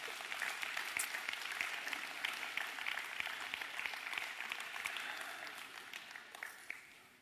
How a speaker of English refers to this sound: Kids, you stays in, but the kids are dismissed. Big round of applause. Y'all clap for the kids.